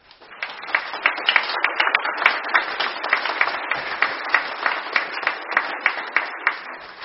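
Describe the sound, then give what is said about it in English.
An audience applauds its children and their educators steadily for about seven seconds, many hands clapping in a dense, bright patter with a loose rhythmic pulse, fairly loud and sustained with no voices over it. “Congregation, this is our children and their educators. Let's applaud them.”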